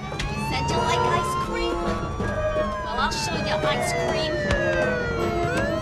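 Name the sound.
police car siren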